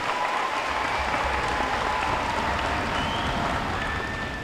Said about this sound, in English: And the students seem to dig it too. After the first song, they erupt with applause so loud it almost rivals the drums.